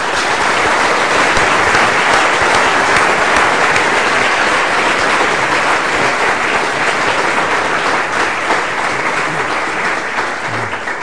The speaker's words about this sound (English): can I invite you to give him a very warm round of applause for this.